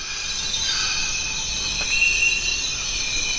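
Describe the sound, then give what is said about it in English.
Dense Amazon rainforest ambience on the Zabalo River in Ecuador, dominated by a steady, shrill chorus of insects buzzing in several high, sustained bands, with a soft low rumble beneath and no voices. “Welcome to the Zabalo River in Ecuador's Amazon rainforest.”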